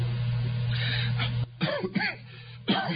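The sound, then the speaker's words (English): A person coughs and clears their throat several times in short, harsh bursts, with a low steady hum beneath at the start and no talking. “Excuse me, I'm still coughing a little bit, but it's a lot better than it was.”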